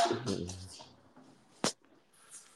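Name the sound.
dog barking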